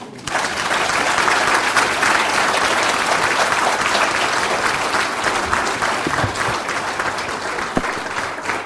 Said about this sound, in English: Well, thanks for that applause,